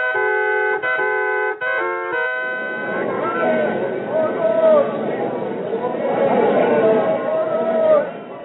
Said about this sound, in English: Listen to them, Bardas. They're still cheering you for the way you brought down that Nubian.